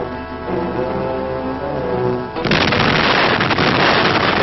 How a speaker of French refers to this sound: C'est d'une distance de 50 km à bord d'un navire que l'explosion devait être commandée par radio.